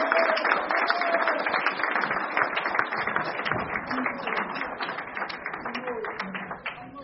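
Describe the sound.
Steady audience applause, a dense crackle of many hands clapping at an even level for several seconds, with a few faint voices and whoops mixed in before it starts to thin.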